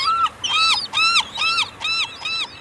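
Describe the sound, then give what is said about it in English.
A glaucous-winged gull pair, bowing as they greet each other, gives the greeting call: a rapid series of about six loud, harsh, arching squeals in a steady rhythm, with no other voices. “glaucous-winged gull pairs bow as they greet each other with this call.”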